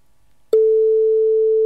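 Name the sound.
phone ringtone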